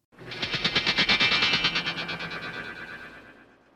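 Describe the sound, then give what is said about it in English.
The bionic strength sound effect from the television series The Six Million Dollar Man, starring Lee Majors: a rapid, rhythmic electronic pulsing with a buzzing, metallic ring, swelling quickly and then fading out over about three and a half seconds, with no voices. “I honestly don't remember much about the show, but I do have very vividly in my head the sound whenever he uses bionic strength.”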